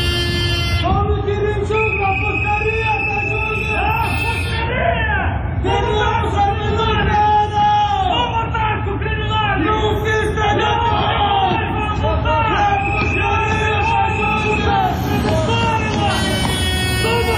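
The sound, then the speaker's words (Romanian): A dense crowd of protesters shouting and chanting together outdoors near the back entrance of the Parliament building as deputies and ministers arrive, loud and continuous, with overlapping yells and a steady rumble of traffic-like noise underneath. “Tocmai ați auzit strigătele ce se auzeau în preajma intrării din spate în clădirea Parlamentului în momentul în care deputații și miniștrii din noua garnitură veneau la ședință, fiind întâmpinați acolo de câteva grupuri răzlețe de protestatari.”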